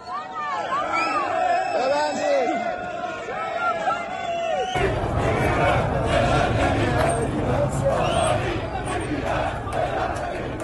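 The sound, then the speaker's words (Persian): A large protest crowd in Tehran's bazaar and central city areas chants slogans against Iran's economic situation and the government, over sharply rising currency prices, in loud rhythmic unison, voices rising and falling together; midway the sound shifts to a denser, rougher roar of many shouting people. “امروز دوشنبه هم تجمعات اعتراضی در نقاط مختلفی از بازار و مناطق مرکزی شهر تهران برپا شده و شعارهای اعتراضی علیه وقت وضع اقتصادی ایران و حکومت سر داده می‌شود.”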